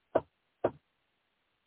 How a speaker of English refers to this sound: It's the scariest sound you will ever hear when you live in a communist country and you hear knock, knock, knock on your door.